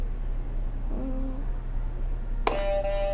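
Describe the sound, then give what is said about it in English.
A game show buzzer sounds abruptly and holds a bright, steady electronic tone for under a second, after a shorter, lower warbling tone. A low hum runs underneath throughout, with no talking. “Why don't you go ahead and press a buzzer for me?”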